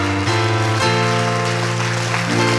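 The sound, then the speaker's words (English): An audience claps steadily as a dense wash of applause blends with sustained keyboard chords that shift a few times underneath, staying loud throughout. “Come on, if you believe that, give your God a hand clap today.”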